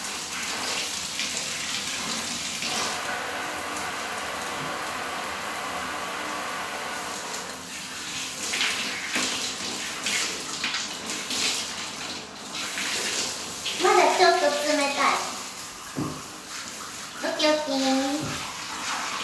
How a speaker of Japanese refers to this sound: さて、流していきましょう。では、シャワーをかけます。